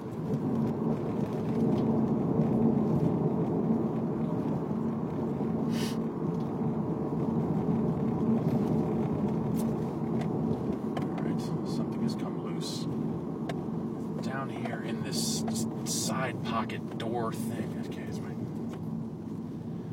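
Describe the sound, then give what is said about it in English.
Steady low road rumble inside a moving car, constant and fairly loud, with a voice talking over it and a few brief higher clicks and squeaks near the end; a towel is stuffed into the driver's door side pocket to muffle a rattling garage door opener and bridge toll pass. “I've got a towel stuffed into this side pocket on the driver's side door of this car to muffle the rattling of my garage door opener and my fast track pass, my bridge toll taking device.”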